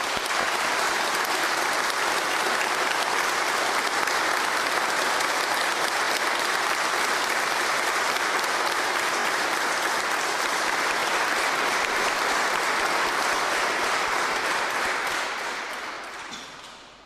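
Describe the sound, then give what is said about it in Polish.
Sustained, dense applause from a large audience in Jasieniec, thanking the residents, the parish priest and his parishioners for their hospitality. It is loud and steady for about fifteen seconds before tapering off at the end, with no one speaking over it. “Długość i głośność tych oklasków, myślę, że dociera na całą diecezję i wszyscy wiedzą, jak nam tutaj dobrze.”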